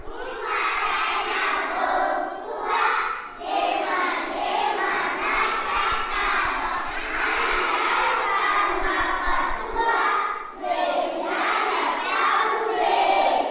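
A group of schoolchildren in a classroom sings and chants together in loud, continuous unison, greeting visitors with a rhythmic educational song with movements about what to do in the morning, bright voices rising and falling in repeated phrases for the whole stretch.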